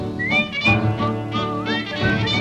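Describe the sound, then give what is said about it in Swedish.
A person whistles a short, bright signal tune with sliding notes, carried over steady instrumental music playing underneath, loud throughout. “Du visslar när du går i land.”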